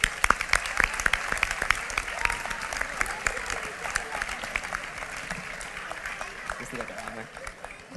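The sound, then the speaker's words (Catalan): An audience claps steadily, a dense crackle of many hands with sharp individual claps standing out, loud at first and gradually thinning toward the end. The applause is for the speaker's companions at the town festivities in Roquetes. “Un aplaudiment per a ells, per favor.”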